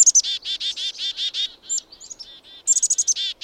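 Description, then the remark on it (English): Evening grosbeak calls: a rapid series of loud, high, buzzy chirps repeated in quick bursts, briefly thinning to a few softer notes before a fresh volley of calls, with no voices. “Evening grosbeaks are disappearing from backyard bird feeders, and no one knows quite why.”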